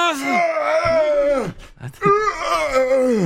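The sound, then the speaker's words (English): A voice lets out two long, effortful groans, each sliding down in pitch, with a brief breathy huff between them, made while getting in and out of a car. “The making noise when you're getting in and out of the car.”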